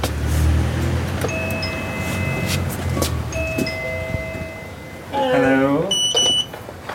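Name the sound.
doorbell ringing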